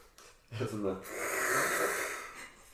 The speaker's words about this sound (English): I was going to cough, but I didn't. I held it in.